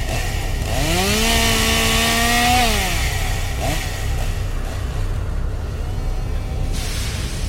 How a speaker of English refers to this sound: This is a chainsaw-wielding maniac from Haunted Overload in Lee, New Hampshire, and we love listening to Scare FM.